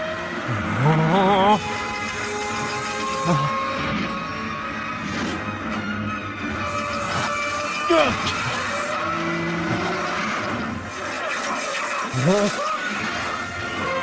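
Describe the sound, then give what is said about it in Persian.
Race cars roar past again and again on the final lap of a race, their engines whining up and down in pitch as they speed by, loud and continuous, with a dense mix of crowd-like noise and voices underneath. “میریم سراغ دور آخر. تو با بین ماشینا سفت میگیره و داره میره به سمت فیروزی و پشت سرش گانی با فاصله کمی تعقیبش میکنه.”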